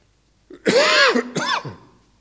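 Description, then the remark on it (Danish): A loud bout of coughing and throat clearing: a harsh raspy burst followed by a second shorter hack, then silence, with no talking. “Det er derfor, jeg har den mikrofon, så jeg kan vende mig lidt væk, når jeg hoster.”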